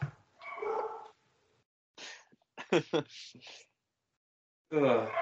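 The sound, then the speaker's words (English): A dog barks and yips in several uneven bursts, fairly loud, with short quiet gaps between the outbursts. “And the dog greets.”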